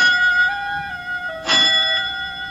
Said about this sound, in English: Only the doorbell. But no one comes here unless her father is present, and seldom then.